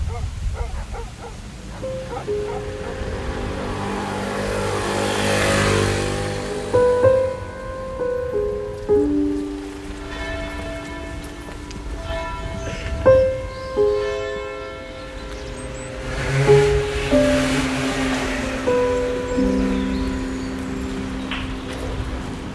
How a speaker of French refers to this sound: On voit des gens qui se promènent. Mmh. Quatre promeneurs là-bas au loin. Des personnes âgées. Ouais. Qui visitent. C'est une grande rue, hein, juste devant nous. Ouais. Il fait beau. Froid. Il n'y a pas de voiture du tout.